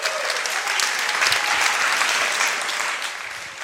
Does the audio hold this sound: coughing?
no